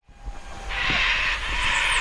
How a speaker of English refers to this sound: Crickets, howling monkeys, tropical birds, and the running water of rivers are some of the sounds we can hear in the depths of the southern Mexican jungle.